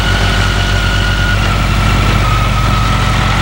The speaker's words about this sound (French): Il va arrêter son scooter au bord de la route.